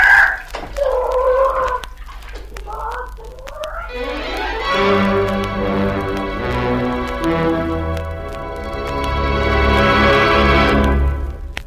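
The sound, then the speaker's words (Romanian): A rooster gives a few short clucks, then a long, loud crow rings out for several seconds, with no one talking. “Boierul, ciudat cum ajunge în dreptul lui fântâni, zice vezeteului: Hei, ia cucoșul, ești obraznic, și aruncă-l în fântâna aceea.”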